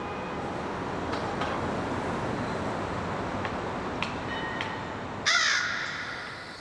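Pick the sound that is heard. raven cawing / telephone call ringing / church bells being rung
raven cawing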